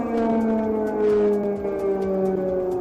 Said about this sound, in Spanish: Desde primera hora de la mañana, las sirenas antiaéreas se han vuelto a sonar en la capital ucraniana.